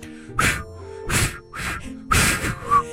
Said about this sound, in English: No, I've never been able to whistle.